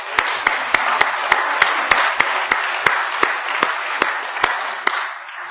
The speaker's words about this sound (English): So, I'd like us to thank those who participated in today's service. A round of applause is certainly allowed.